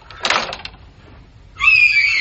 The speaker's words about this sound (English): stop screaming!